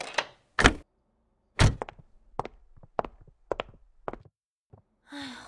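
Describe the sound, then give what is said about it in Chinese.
A heavy thunk and then a quick series of metallic clicks and taps, like a lock being worked, ending in a soft rushing sweep as a door swings open. “好，我知道你千杯不醉，雪花不飘你不飘，青岛不倒你不倒，所以你现在能不能好好站一会儿，让我去开门开灯？”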